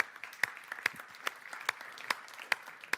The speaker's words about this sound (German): Ein Applaus für Sebastian Hell, der auch im Publikum ist.